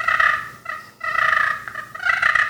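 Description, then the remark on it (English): Aggressive wild turkey fighting purrs, imitated on a turkey call by a hunter walking in along a trail on Bennett ground: loud, raspy, rolling purrs in three quick bouts separated by brief pauses, with no talking. “And then I'd lost my GoPro, gone up looking for the GoPro, and I thought, you know, I'm just going to hit fighting purrs as I go in.”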